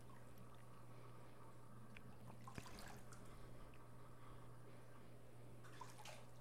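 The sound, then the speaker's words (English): Water in a bathtub with a purple bath bomb dissolving and turning the water purple, a steady fizzing hiss with a low hum underneath and a few small splashes and drips. No one speaks. “I also made sure to use a purple bath bomb. I've always liked that the bath bomb itself, it turns the water purple, and then it feels like a lake out of an anime or a movie or something.”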